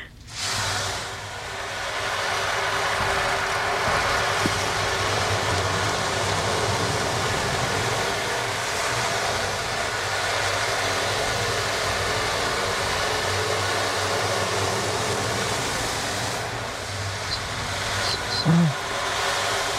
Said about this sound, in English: But yeah, the picture of my background, that's my favorite sound of the waves over the sand and water.